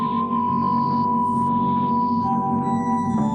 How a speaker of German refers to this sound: Für die Melodie dieses Intros, das ja schon sehr Synthi-mäßig klingt, haben die Radio-Soundtechniker dann die Studio-Oszillatoren manipuliert. Also eigentlich Testgeräte, die einen ganz klaren, einfachen Sinuston über den Sender schicken können.